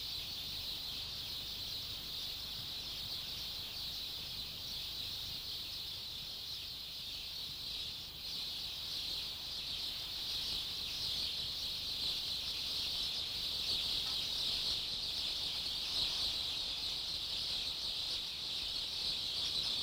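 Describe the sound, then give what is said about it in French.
A dense, continuous wash of layered birdsong and insect-like chirring, manipulated and multiplied by Antoine Bonfanti for Chris Marker's 1963 film La Jetée, forming a steady shimmering texture that holds a constant level throughout, with no voices. “Voilà, tu vois, ce que j'entends s'achève sur ces chants d'oiseaux manipulés, multipliés par Antoine Bonfanti dans le chef-d'œuvre de Chris Marker, La Jetée, en 1963.”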